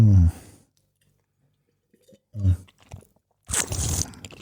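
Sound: slurping a drink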